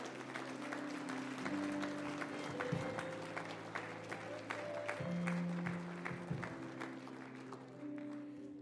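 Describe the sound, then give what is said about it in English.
An audience gives a steady hand clap of praise, a dense wash of clapping that carries on at an even level while sustained organ or keyboard chords hold low underneath. “Come on, give them a hand clap of praise.”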